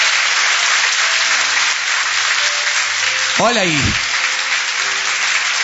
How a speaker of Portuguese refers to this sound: Olha aí as pessoas chegando. Aplauda, igreja, com mais alegria.